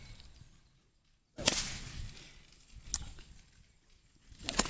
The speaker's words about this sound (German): Also es kommt da wirklich aus dem Handgelenk raus. Ich mache immer was mit dem Arm, will ich immer machen, aber das soll ich gar nicht. Das ist jetzt keine normale Peitsche.